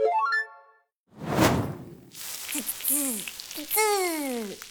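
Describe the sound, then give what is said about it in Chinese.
A fried egg being cooked sizzles loudly in a hot frying pan, a steady crackling hiss that carries on under a few quick whistling, sliding tones after a short chime at the start. “妈妈又煎了一个荷包蛋”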